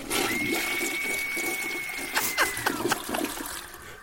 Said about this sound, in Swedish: In på toaletten, öppnar upp toalettlocket och spolar ner Malin.